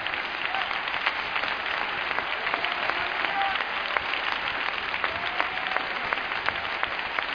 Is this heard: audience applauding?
yes